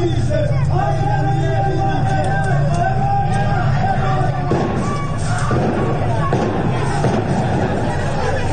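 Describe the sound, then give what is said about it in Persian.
Several sharp gunshot-like cracks ring out at irregular intervals over a loud, dense crowd, with shouting and chaotic street noise throughout, during a street protest in the town of Abdanan, where many security forces were present and residents set tires on fire in the streets. “در برخی از ویدیوهای منتشر شده صدای تیراندازی هم به گوش می‌رسد.”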